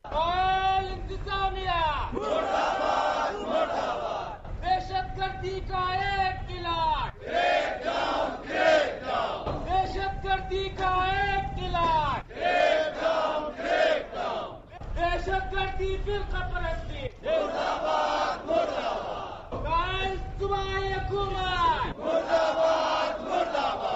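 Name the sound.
protesters chanting slogans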